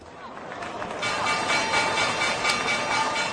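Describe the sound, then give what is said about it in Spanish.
The Wall Street stock exchange opening bell rings in a loud, continuous metallic clatter, swelling after a second and holding steady, with a faint wash of crowd noise underneath. “Esta es la campana de Wall Street.”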